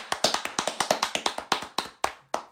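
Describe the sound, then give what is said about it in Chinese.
A single person claps hands in a quick steady run of about fifteen sharp claps that slows over the last few, with no talking. “我在这里为这些男性朋友 鼓鼓掌。”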